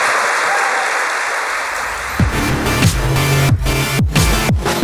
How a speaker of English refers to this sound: A massive round of applause for our guests, ladies and gentlemen.